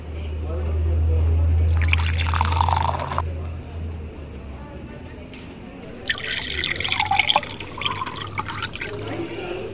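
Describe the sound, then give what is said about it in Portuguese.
Water is poured in two splashy bursts during a break to drink water, one early and a longer one later, over a steady low hum with faint voices in the background. “Vamos sair pra dar beber uma aguinha antes de...”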